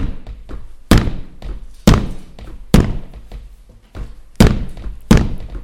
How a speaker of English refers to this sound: A hammer, Noah building an ark.